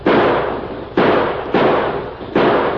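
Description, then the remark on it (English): Four loud gunshots ring out at uneven intervals from riders coming fast and shooting hard. Each is a sharp, booming crack with a long rumbling tail that fades just before the next shot. No one speaks. “They're coming fast and shooting hard.”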